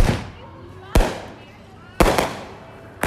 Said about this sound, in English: The whoosh and bang of fireworks ring out from every corner of the city. Whether you consider it a nuisance or a celebration, it's unlikely to end anytime soon.